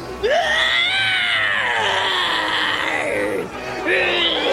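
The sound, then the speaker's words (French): A man locked in a cabin deep in a ship bellows and screams furiously in a long, strained, rising-and-falling howl, then pauses briefly before launching into another loud yell. Loud throughout. “Il vocifère, il s'époumonne, il crie comme un enragé.”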